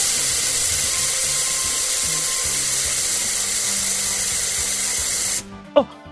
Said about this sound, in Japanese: はい、じゃあスプレーを木に向けて、えい。